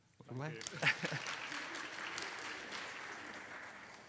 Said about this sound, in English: And so because he's been such a good sport this morning, we'll give him a wee clap.